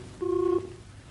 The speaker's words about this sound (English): Michael, your number's ringing.